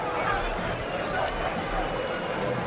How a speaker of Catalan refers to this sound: Entrarà Vitor Roque, aquests aplaudiments són per ell, ja se'n va cap a l'àrea tècnica.